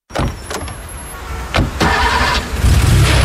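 A car engine cranks and turns over, then settles into a steady low rumble that grows louder toward the end, with a few sharp clicks early on, in an ad for SalvaRent car rental pickup and return. No one speaks.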